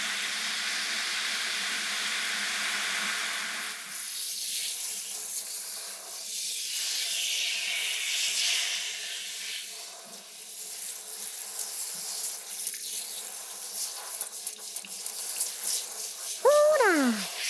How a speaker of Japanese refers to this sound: 泡がお湯に押されて流れていきよるばい。あんたの頭皮の汚れと一緒に流れていきようとよ。 泡が頭皮に残ってもいかんけん、ここでもちゃんと手でほぐしたるけんね。ザブーザブーザブーザブーって、 シャワーの気持ちよか音がしよるね。